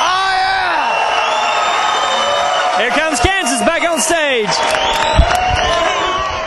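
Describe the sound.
A loud concert crowd, on its feet at the Wild Horse Saloon on a Wednesday night, maybe about 2,500 people, cheers steadily, with rising whoops and shouted yells cutting through the roar, while a man speaks briefly over the noise.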